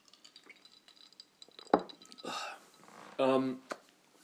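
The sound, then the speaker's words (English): A quiet sip from a drink with a wet click and slurp, followed by a swallow and a short, voiced exhale, with faint clinks of a glass. “I'm just going to have a sip of my drink here.”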